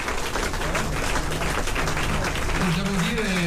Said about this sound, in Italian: Simona Bonafè, la segretaria del PD, facciamogli un applauso perché ha lavorato.